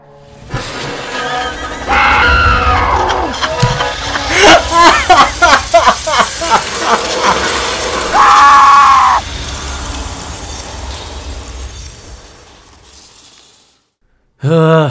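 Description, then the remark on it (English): Loud crashing and cracking as a printer is smashed apart, with a rapid run of heavy blows and some strained vocal sounds mixed in. “I'm going to savage this machine to try and make an opening.”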